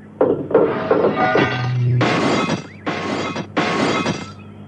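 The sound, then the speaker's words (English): Broken windscreen glass is knocked loose and cleared away from a wrecked car, where a steel ladder had stuck through the windscreen, in a series of loud crunching bursts, with tinkling shards and a heavy thunk amid the clatter. “Steed cleared the windscreen of the rest of the glass and threw the steel ladder into the nearest ditch”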